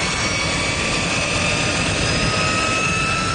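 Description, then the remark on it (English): A jet engine is fired up next to a Tickle Me Elmo toy, incinerating it; it roars steadily, a loud, dense rush of noise layered with high, thin whining tones that hold nearly constant throughout, with no voices. “And I don't know what the temperature is of a jet engine.”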